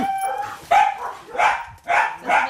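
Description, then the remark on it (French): A dog barks four times in a steady rhythm, fairly loud, each bark sharp with a slightly whiny, yipping edge. No one speaks. “Oh, mais alors! Mais alors! Mon chien!”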